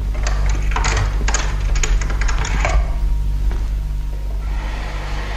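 A secret door is worked open with a run of sharp, rattling mechanical clicks and clatters for a few seconds, then fades into a steady low hum with no voices.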